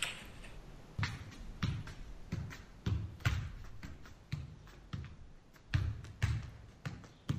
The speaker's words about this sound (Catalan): El que esteu escoltant és a un futbolista del Villarreal pilotejant en un terrat, pegant-li patades a una paret i controlant la pilota que no caiga.